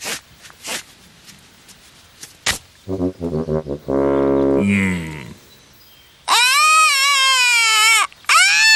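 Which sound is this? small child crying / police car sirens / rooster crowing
small child crying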